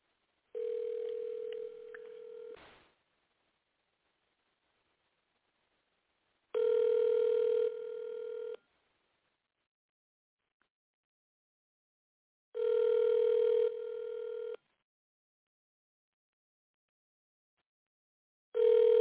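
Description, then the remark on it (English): A call from a cell phone ringing out on the line: steady two-second electronic ring tones repeat four times with long silent gaps between them, and no one speaks. “Let me see if I can call her.”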